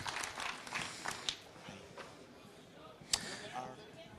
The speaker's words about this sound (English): The next speaker is Cola Flash. You can come on stage. A warm applause for Cola Flash, please.